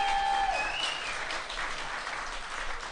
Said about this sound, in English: I think people are clapping for everything, actually.